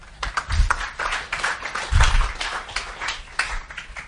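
An audience applauds steadily, a dense crackle of many hands clapping at once with a few heavier thumps mixed in, sustained at a fairly even loudness for the whole stretch with no talking.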